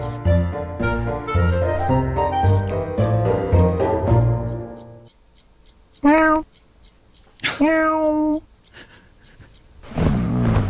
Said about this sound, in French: Donc là, en fait, il faut imaginer un gros chat blanc en train d'essayer de réveiller son maître par tous les moyens. Il piétine la couverture, il renverse le réveil, il lui met même une ou deux petites claques.